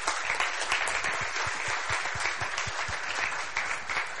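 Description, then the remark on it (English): An audience applauds the panelists after a panel debate, a dense wash of many hands clapping at once with individual claps flickering through, holding a fairly even loudness for a few seconds. “I think, first of all, we should have a round of applause for our panelists.”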